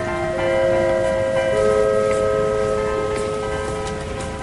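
A train rumbles loudly through a station, its steady rolling noise overlaid with sustained high, ringing tones like a horn or screeching brakes that hold throughout.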